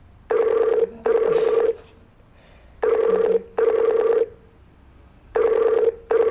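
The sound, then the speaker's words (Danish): A Skype call ringing tone repeats in pairs of bright, harmonic chimes, each pair followed by a short pause, clear with no one speaking. “det kan være, at han ikke fatter, at du ringer på Skype”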